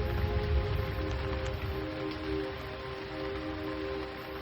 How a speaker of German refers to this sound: In welche Landschaft du auch immer gewandert bist, um deinem Krafttier nahe zu sein, kehre nun zurück zu der kleinen Überdachung auf dem Hügel, wo der Regen auf die Blätter der Bäume fällt und die Tropfen sich an die Grashalme klammern.